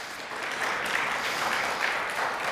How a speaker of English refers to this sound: Yeah, some of y'all are clapping, so give them, yeah.